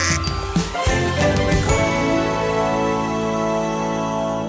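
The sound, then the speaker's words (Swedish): A bright, tinkling electronic ringtone plays continuously at steady volume, a looping melodic jingle with sustained tones and no voices. “Det ringer, jag måste svara.”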